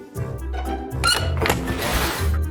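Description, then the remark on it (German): A door creaks open with a drawn-out, wavering squeak, low groaning tones shifting to a brighter scraping creak midway, fairly loud and with no voices. “Die quietscht.”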